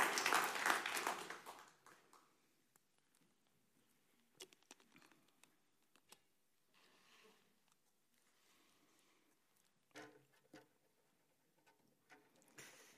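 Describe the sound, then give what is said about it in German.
A short burst of audience clapping during a sermon that fades out after a couple of seconds, followed by a few scattered, isolated claps and light rustling, with no one talking. “Könnt klatschen.”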